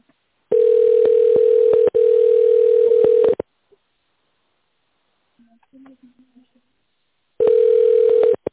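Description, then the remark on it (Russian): A steady, low-pitched telephone ringback tone, heard while waiting for an operator on the Farmservice company phone line, drones for about three seconds, falls silent while a faint voice murmurs briefly, then starts ringing again. “Если вы хотите сообщить о фактах несоблюдения норм compliance, наберите 0 или дождитесь ответа оператора.”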